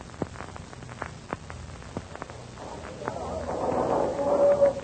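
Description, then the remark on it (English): Gunshots crack near a harbor entrance in an irregular, scattered series, sharp and fairly faint, before a swelling rushing rumble builds and a thin whine rises over it toward the end. “But shortly after Flash guides the Johnson to Landers, shots are heard near the harbor entrance.”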